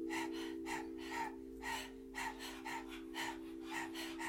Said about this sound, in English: And what we're going to do is open the mouth, stick out the tongue, and begin to pant rhythmically like a dog.